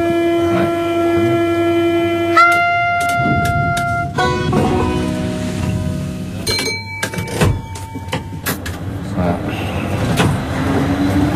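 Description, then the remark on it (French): A metro train runs at rush hour with a steady rumble, its motors singing a stepped series of rising tones as it accelerates, heard from inside the front car with some voices around. “Vous entendez jamais la musique dans le métro?”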